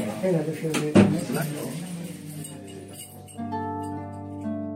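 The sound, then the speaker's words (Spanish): A 78-year-old woman being evicted pulls the door of her flat in Barcelona shut with a solid thud, followed by faint metallic clinks of keys turning in the lock, while a voice murmurs. “Con ese último tirón de la puerta y un giro de llaves, esta señora de 78 años abandona, desahuciada, su piso de Barcelona.”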